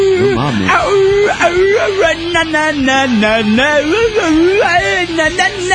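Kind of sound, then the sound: vocal imitation, voice imitating a howl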